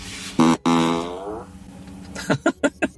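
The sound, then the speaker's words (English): A loud, drawn-out fart noise blares from a car's external speaker, sliding downward in pitch, followed by a quick series of four short sputtering bursts. “So you can play fart sounds on the outside of the car.”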